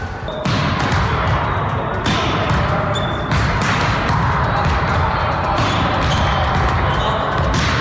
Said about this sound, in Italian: Si lavora duro nella palestra del Club Italia, la formazione del volley femminile azzurro che fa direttamente capo alla Federvolley italiana e che raggruppa le giovani più talentuose del panorama nazionale.